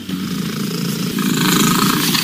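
domestic cat purring loudly

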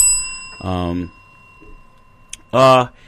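bell ringing

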